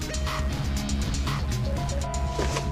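A van drives slowly along a neighborhood street, its engine humming and rumbling steadily at low speed, fairly loud throughout, with no one speaking.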